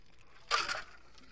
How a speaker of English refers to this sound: I hate when the ice cube gets in the way.